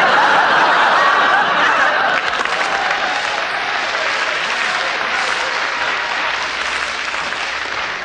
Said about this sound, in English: Clap, clap.